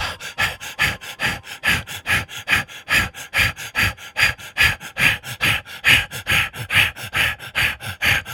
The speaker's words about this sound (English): Again, returning to the root and breathing in and out. Ready?